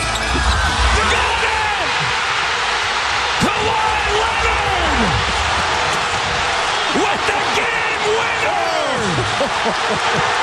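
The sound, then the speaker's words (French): A basketball shot taken for the win bounces several times on the rim, each clang separated by a pause, under the steady roar of a huge arena crowd at a basketball game, with voices calling out over the din. “Les gens qui n'ont pas vu la séquence, vous allez comprendre à quel point le ballon rebondit sur l'anneau.”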